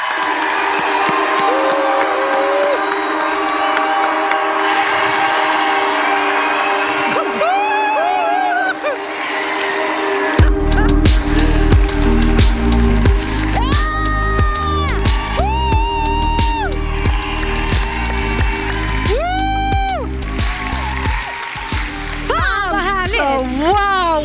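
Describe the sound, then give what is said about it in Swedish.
A crowd at a live show in Stockholm applauds and cheers loudly for the full stretch as the performers come on, with high whoops and shouts rising above the clapping. Partway through, music with a pounding bass beat kicks in underneath. “Ge dem en varm applåd, nu är de här!”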